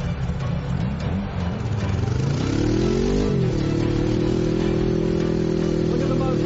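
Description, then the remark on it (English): A car engine revs hard, its pitch sweeping upward as it accelerates, then settles into a loud, steady drone that holds to the end. “Now get in. Step on it.”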